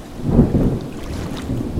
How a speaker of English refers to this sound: Imagine two men, let's call them Harry and Carl, on a boat. The mast is struck by lightning,